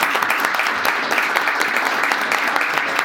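A crowd applauds steadily, a dense, even wash of many hands clapping at a sustained, fairly loud level with no pauses, and no clear voices above it.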